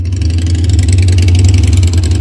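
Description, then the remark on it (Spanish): A motorcycle engine runs loud, its deep rumble steady with slight revving surges throughout, as a man climbs onto the waiting motorcycle; no voices are heard. “Detrás le espera Reto en una moto. Chino sube a la moto.”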